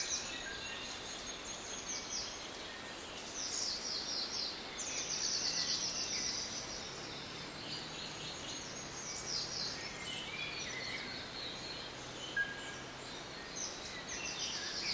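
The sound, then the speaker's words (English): Birds sing and chirp in a pine forest on a warm summer day, their high trills and tweets repeating steadily over a soft, constant outdoor hiss, with faint insect buzz in the background. “It's a warm summer day, and you can hear birds singing and feel the soft, warm breeze on your skin.”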